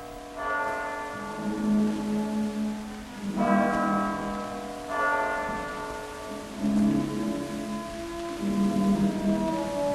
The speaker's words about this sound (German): Das 1 Uhr läuten der Kirchturmuhr hört er schon nicht mehr.